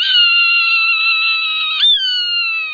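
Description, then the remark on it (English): A Swainson's hawk's long, raspy scream on the western high plains, loud, drawn out on a slowly falling pitch, with a brief catch near the end before it trails on, alone without other sounds. “On the western high plains, a raspy scream.”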